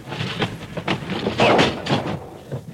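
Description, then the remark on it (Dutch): A door is pulled shut with a series of heavy clunks and rattling bumps, loud, with a brief scraping burst in the middle and no voices. “Deur dicht.”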